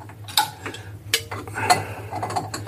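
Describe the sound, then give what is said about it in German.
A lock nut is screwed back on over a disc on a cone and tightened with a wrench: a few sharp metallic clicks and clinks at irregular intervals, over a steady low mechanical hum, with no one speaking. “Und dann ziehe ich das wieder fest mit dem Schlüssel.”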